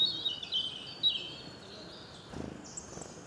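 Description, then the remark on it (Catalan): Thin, high bird chirps and brief whistles repeat against a soft outdoor hush at a wetland lagoon, with a longer high call near the end and a faint rustle midway. “Resulta molt interessant la fauna i, sobretot, la presència dels ocells.”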